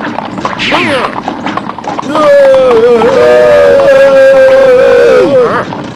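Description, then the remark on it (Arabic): A horse's hooves clip-clop at a brisk, steady pace while a man's voice shouts over them, urging the horse to hurry, the galloping loud throughout. “هيا بسرعة أيها الحصان.”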